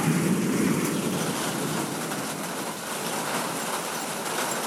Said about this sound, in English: That's right on top of us, because yep, the lightning and the thunder came at the same time.